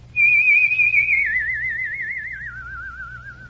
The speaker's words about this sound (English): And all of a sudden, I discovered that I could make a whistle tone. And I kept on working until finally I had a pretty vibrant tone.